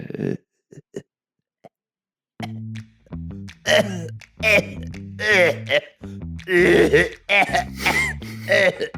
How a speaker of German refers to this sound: Oh Gott. Hilfe. Ja. Ja, so einen Huster wollte ich noch rauslassen.